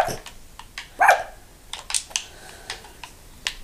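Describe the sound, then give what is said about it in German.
A single short bark from the speaker's dog rises out of a busy background of sharp clicking and tapping, like keys or game clicks, which continue lightly before and after it. “Hallo, mein Hund.”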